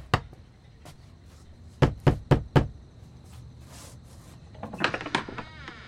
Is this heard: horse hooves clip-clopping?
no